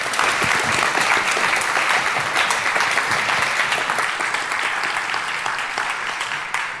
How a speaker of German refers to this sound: Und genau, erstmal einen großen Applaus, denke ich.